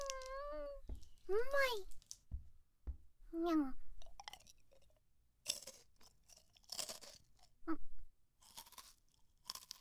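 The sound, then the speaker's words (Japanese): Loud crunchy chewing in a series of rough bursts, like hard food being bitten and ground, following a few short high, meow-like vocal sounds. “うまいにゃ。なんか硬いけど、うまいにゃ。”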